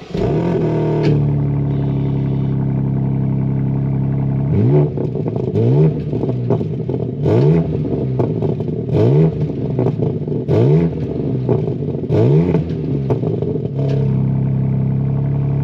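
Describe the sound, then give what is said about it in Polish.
A loud engine of a '4 Competition' Cabrio convertible sports car with four-wheel drive revs repeatedly, its raspy exhaust rising and falling in several sharp, aggressive bursts, with a steady idle rumble between them and no talking. “Bo głośny wydech już jest.”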